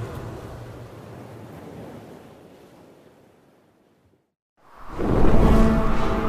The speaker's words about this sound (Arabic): يا ربي الريح آتية، سنطير يا سندباد.